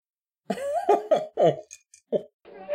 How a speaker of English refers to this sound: I just coughed up a jalapeno. Dying.